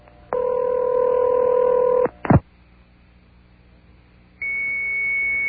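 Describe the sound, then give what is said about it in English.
After a phone number is dialed, a phone line gives a steady two-tone ring, then a sharp click as the call is picked up. After a short silence, a steady high-pitched computer modem tone begins and holds. “Make the phone call, it rings and picks up with a computer tone.”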